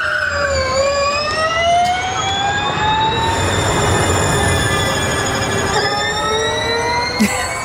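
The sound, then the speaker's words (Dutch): A Gen 3 Evo Formula E electric race car accelerates with a loud, high-pitched motor whine that climbs steadily in pitch, levels off, then shifts again, over a constant roar of road and wind noise. “Ja, de Gen 3 Evo. Nou. Binnen 1,9 seconden van de 0 naar 100. 30% sneller dan een Formule 1-auto, melden ze in het persbericht.”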